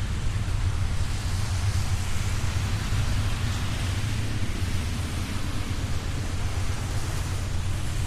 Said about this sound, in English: Yeah, I wish I'd have caught it a little sooner. A train in the rain.